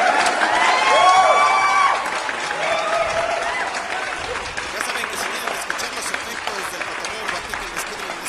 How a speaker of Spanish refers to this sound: ¡Aplausos, malditos!